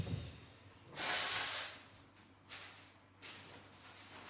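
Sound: nose blowing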